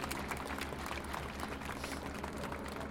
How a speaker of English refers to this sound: And there is a small group of people in the backyard. They probably have had special access, or perhaps they might be part of the entourage of the Pope. And they're applauding, and their applause solicits the applause here on St. Peter's Square.